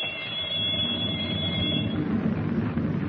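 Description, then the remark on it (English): A harsh electric torpedo firing alarm bell in the control compartment of a submerged submarine rings nonstop through the steel hull for about three seconds, a loud, rattling metallic clangor with a shrill high ringing tone layered over it and no voices. “In the control compartment, he holds Captain Denning at gunpoint while the torpedo firing alarm bell rings through the steel hull.”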